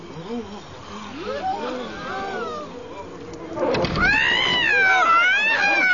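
A cat up a tree, its fur standing on end, yowls and wails in drawn-out, rising and falling cries, growing louder and more strident toward the end, sounding agitated.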